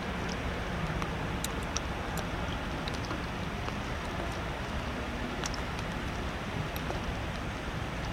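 Raindrops hitting an EarthCam camera in New York City make sharp, irregular ticks and taps scattered over a steady, dense hiss of background noise while it rains in the city. No one speaks.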